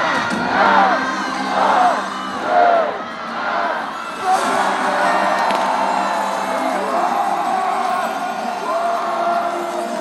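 A large crowd in Moutier roars and cheers in celebration as the town officially becomes the 51st commune of the Jura, with whoops and yells rising in swells over the first few seconds before settling into a sustained, dense outdoor clamor.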